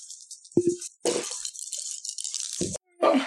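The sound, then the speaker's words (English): Dice rolled by several players rattle and clatter across a hard surface, a continuous scattering of small clicks with a few heavier knocks as they tumble and settle. “Oh, my dice escaped.”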